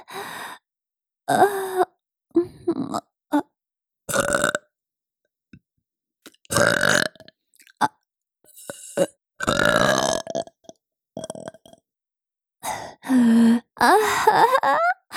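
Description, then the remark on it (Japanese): A series of loud, drawn-out milk burps from a mother, about a dozen in all, coming in irregular bursts with short silent gaps between them, some long and groaning, others short and croaky. “出た。どう？ママのミルクゲップ。”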